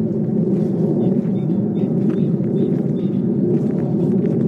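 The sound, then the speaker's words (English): A jet aircraft roars overhead in a steady, loud, low rumble that holds without letup, with faint bird chirps flickering high above it. “It's another flipping jet. Probably on its way to COP26.”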